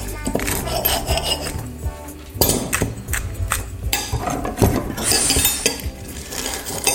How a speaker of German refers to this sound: Und hört einfach mal rein, allein vorher schon, nur mal auf das Besteck und das Geschirr achten, bevor wir die Tomaten gegessen haben.